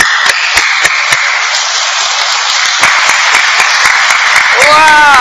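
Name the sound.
hands clapping repeatedly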